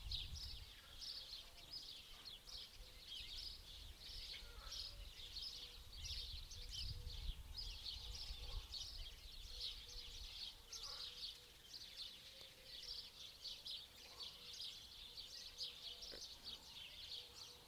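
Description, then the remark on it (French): Birds sing steadily outdoors, a continuous overlapping chorus of high chirps and trills, with a soft low rumble of outdoor ambience beneath and no talking. “Toute votre attention sur le chant des oiseaux au dehors.”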